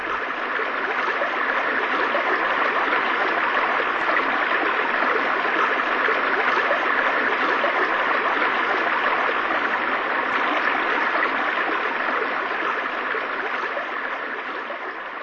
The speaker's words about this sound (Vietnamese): Ở một nơi nào đó xa xa dưới sâu kia là những tia sáng lóng lánh của bụi nước. Tôi gào lên, nhưng chỉ có tiếng ầm ào của thác nước tựa như giọng người vọng đến tai tôi.